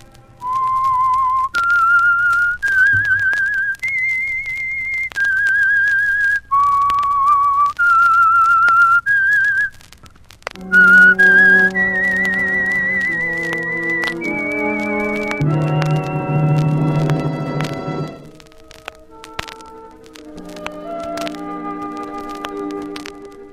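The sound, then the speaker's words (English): The opening theme of the radio mystery show The Whistler: a lone whistled melody of about nine sustained notes, each held then stepping up and down in pitch, gives way to swelling orchestral music with full chords that fades out at the end. “Now, here is the Whistler.”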